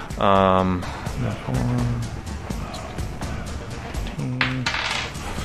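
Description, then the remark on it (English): A quick rattle of dice tumbling and clattering across a hard tabletop in a 2d8 damage roll, with people talking over and around the sound. “So I rolled absolutely garbage on 2d8.”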